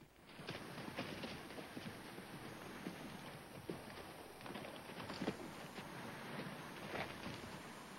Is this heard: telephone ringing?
no